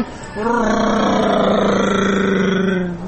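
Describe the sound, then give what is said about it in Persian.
A voice imitates a motorcycle engine, holding a loud, buzzing vroom for nearly three seconds with a slight pitch rise, as if a woman on a motorbike approaches from afar and speeds past. “الان فرض کن یه خانومی روی موتور از اون دورا داره میاد.”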